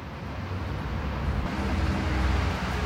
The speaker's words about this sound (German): Ja, man kriegt das gar nicht mit normalerweise, ne? Die Autos fahren, ein Bus biegt um die Ecke, Fahrradfahrer geht vorbei, ein Dude beißt in seinen Döner, eine Family kommt auf dem Fahrrad angefahren, kleines Klingelkind.